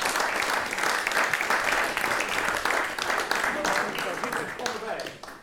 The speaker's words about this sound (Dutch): Dames en heren, applaus